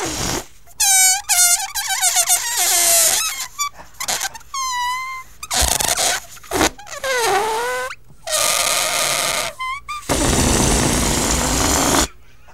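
A tune squeaked out on a stretched balloon neck: shrill, wavering high notes in short bursts that slide up and down in pitch, broken by hissing rushes of escaping air.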